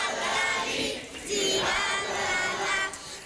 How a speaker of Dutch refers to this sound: Applaus!